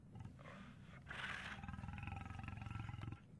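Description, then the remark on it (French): A bear gives one loud, deep roar, a rough, rumbling growl that swells and holds for about three seconds before cutting off, with no one speaking. “Un ours. C'est un ours gourmand.”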